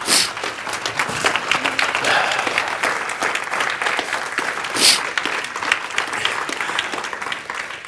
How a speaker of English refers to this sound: Will you stand to your feet and give a good hand clap to the Lord?